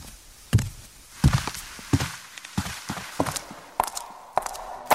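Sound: footsteps walking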